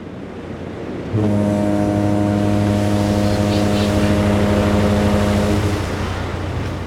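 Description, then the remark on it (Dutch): A boat crossing the Indian Ocean on rough seas, bound for Sumatra: a constant loud rush of waves and wind, with a long, deep horn blast sounding for several seconds over the churning water. “Daar, hou je goed vast aan de reling, want vandaag varen we met onze boot over de Indische Oceaan. En geloof me, het kan er ruig aan toe gaan op zee.”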